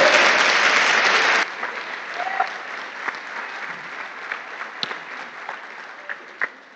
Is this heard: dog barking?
no